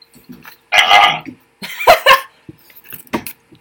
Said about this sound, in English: Dude, though, that was a real burp. That was a real burp, though